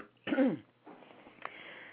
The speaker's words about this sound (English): Okay, let me clear my throat. I should have got some water first. Hold on.